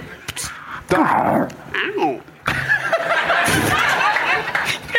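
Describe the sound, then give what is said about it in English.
A human voice imitates a weary, aging cat with drawn-out, wavering meows and groaning whines, rising and falling in pitch, while others chuckle and laugh over it. “older, tired cat voice.”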